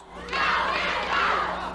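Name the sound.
wrestling crowd cheering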